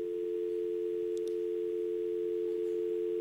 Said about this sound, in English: And what was on there when you picked up the phone? A dial tone. You remember that?